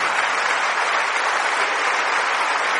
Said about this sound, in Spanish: Un aplauso para Pablo VI.